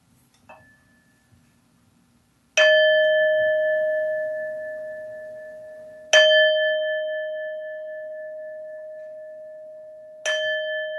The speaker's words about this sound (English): And I will chime the bell for our meditation. And then I'd like to speak some words to lead us into that meditation.